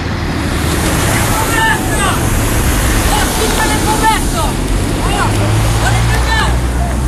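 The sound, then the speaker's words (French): Several brief shouted calls and cries from prisoners of the Beaumets at their cell windows, calling to people outside the prison, rise in scattered bursts over a constant, loud rushing noise, with no clear words. “Si on tend l'oreille, on les entend, ceux des Beaumets, ceux qui sont aux fenêtres et qui hurlent, qui crient. Et c'est toujours terrible, ce son des détenus qui crient à l'attention de ceux qui sont à l'extérieur.”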